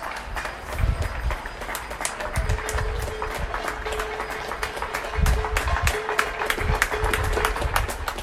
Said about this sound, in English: medical staff and frontline healthcare workers by clapping and banging their pots